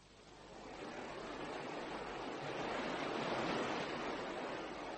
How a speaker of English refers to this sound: The river's a wonderful sight on nights like this, foaming away in the moonlight.